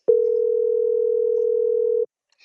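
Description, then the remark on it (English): A telephone ringback tone sounds once, a steady two-second hum that cuts off into silence while the call goes unanswered. It's loud and clear, with no voices. “No, they're not picking up.”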